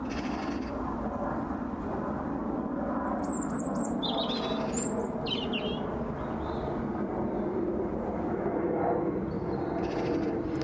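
birds singing

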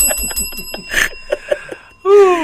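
bell ringing

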